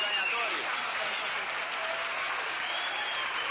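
A theatre audience at the Teatro Record applauds vigorously and continuously for a winner of the Festival da Música Popular Brasileira, a dense, steady wash of clapping that stays loud throughout, with crowd noise blended in.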